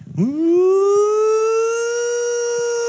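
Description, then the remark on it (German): Loud air-raid sirens wind up from a low pitch and rise into a steady, sustained wail, continuous with no speech over it. “Und auf einmal gingen die Sirenen los.”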